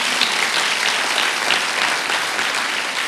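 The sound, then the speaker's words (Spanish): A church crowd applauds God steadily, a dense, even wash of many hands clapping at a constant loud level with no voices standing out. “¿Por qué no le dan un aplauso a Dios por eso?”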